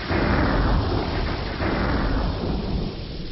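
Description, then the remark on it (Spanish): Deep, rolling thunder rumbles steadily through a storm, a broad low roar that swells and fades without pause, with a wash of rain-like hiss underneath and no voices. “¿Qué escuchó? Claro, es una tormenta.”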